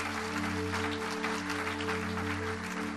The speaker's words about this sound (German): Halleluja. Gib Jesus mal einen Beifall. Halleluja.